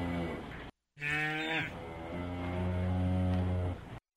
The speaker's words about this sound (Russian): Бык мычит, мычит, мычит.